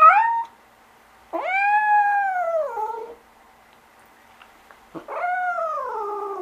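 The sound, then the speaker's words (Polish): Cats yowl during mating season in March in Poznań, long, drawn-out wails that rise and sag in pitch: the tail of one cry, then two full calls separated by quiet pauses, fairly loud with no talking. “Bardzo dużo kotów właścicielskich ma możliwość wychodzenia na otwarty teren, a tym samym niestety ta reprodukcja w dużej skali, obecnie mamy marzec, słychać, nawet to słychać w Poznaniu.”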